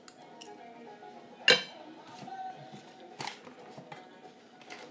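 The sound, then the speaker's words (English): A couple of sharp metallic clinks of cutlery against a plate over a quiet background, with soft rustling sounds of someone eating naan bread in between. “I'm just eating a bit of naan bread.”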